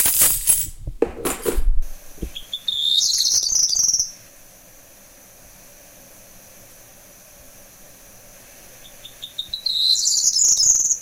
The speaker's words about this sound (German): Ja, also es gibt auf jeden Fall, ich fand das jetzt nicht 1:1, aber du hast schon recht, es hat eben diesen hohen, sehr zwitschernd, aber schon fast so, es erinnert mich auch ein bisschen an einen Rotschwanz, ganz wenig.